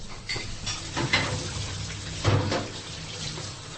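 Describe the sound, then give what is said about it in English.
Busy Polish restaurant kitchen where dishes such as borscht are being prepared, with a steady wash of running water and sizzling, broken by a few sharp clanks of utensils or pans, continuous, with no one speaking. “This is the place where all these wonderful dishes, including typically Polish dishes, are being prepared.”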